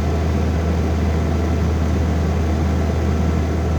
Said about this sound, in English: And I captured the sound with my phone of the whirring condenser fan, which I could have easily stuck my finger or toe into while I was back there with the back of the fridge taken off.